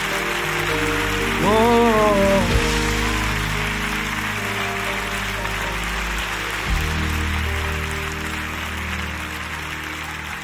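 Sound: audience clapping hands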